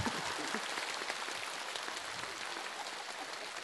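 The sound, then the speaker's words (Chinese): A crowd applauds steadily for a few seconds, a dense wash of many hands clapping at once with no pauses, fairly loud, with no voices standing out. “啊，帮你们看你们就鼓掌。”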